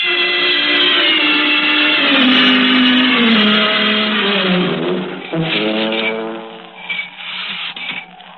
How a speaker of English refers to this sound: Oh, listen, that's him. That's his horn.